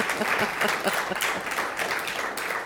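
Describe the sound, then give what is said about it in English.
An audience applauds steadily, a dense wash of many hands clapping at an even, sustained loudness with no voices standing out. “Let's give them a round for getting through the applause.”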